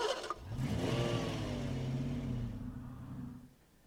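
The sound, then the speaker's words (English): A small, cartoonish toy car engine for Wheelie, a blue ball on wheels like a little car who likes to go fast, revs up loudly, its whine rising and then settling into a steady buzzing hum before cutting off after about three seconds. “Wheelie is a blue ball on wheels, like a little car, and he likes to go fast.”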